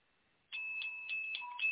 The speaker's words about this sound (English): Do you hear that bell? Well, it's just for you, those who received Jesus for the first time and those who rededicated their lives to Him today.